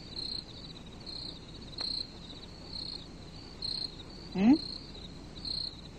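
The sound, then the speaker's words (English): Repeated cricket chirps pulse at a steady rhythm, each short trill evenly spaced about a second apart, with a brief rising whistle-like sound breaking in near the end against a quiet background. “It's a cricket. It's a cricket, Ernie.”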